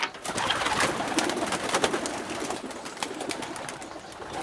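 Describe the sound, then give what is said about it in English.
A flock of homing pigeons coos steadily, their soft murmuring calls overlapping with a busy rustle and occasional flutter, continuing without pause and with no talking. “Recent research on flocks of homing pigeons has shed some light on this very question.”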